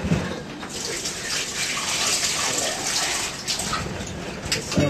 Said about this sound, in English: And then you wash your cucumber. By now it's ready. You wash it in filter water, okay? Because you're eating it raw. Rinse it a couple of times until the water is all clear.